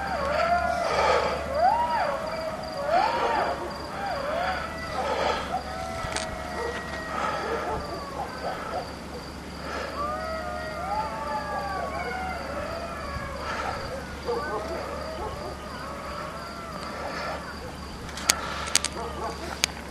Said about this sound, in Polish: O, słychać. Może uda się. O, wyją. Lisy, wilki.